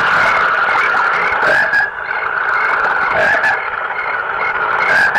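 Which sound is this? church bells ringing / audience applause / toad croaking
toad croaking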